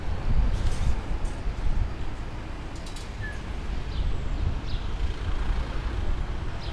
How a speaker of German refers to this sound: Aber ich lasse kurz den republikanischen Bus durch. Grüße, hallo.